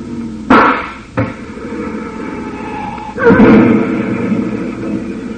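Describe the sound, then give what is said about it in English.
Two sharp, loud gunshots crack over a low truck engine rumble as a bullet is fired into the truck's tire, followed by a sudden louder roaring, hissing surge that trails off slowly. “Truck starts slowly, Collister, but a bullet in the tire will ruin him every time.”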